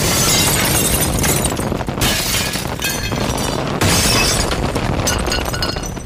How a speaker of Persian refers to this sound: موشک بعدی نمیدونم کجا افتاد، ولی صدای فرو ریختن دیوارای خونه رو شنیدم.